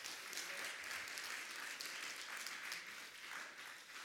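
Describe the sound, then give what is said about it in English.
A church audience gives a hand clap of appreciation for God, steady, dense hand clapping that holds at an even level for about four seconds, a continuous crackling wash of many hands with no speech over it. “Give him a hand clap of appreciation.”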